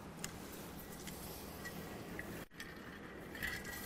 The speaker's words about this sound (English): In fact, did you know that you could do that right here in this church this morning, right now, while I get me a drink of water?